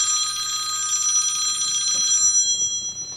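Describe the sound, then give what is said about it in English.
A telephone rings with a bright, warbling electronic trill that holds steady for about two seconds, then cuts off, leaving faint background rustling. “These fucking phone calls from people who are calling you on a recorded line.”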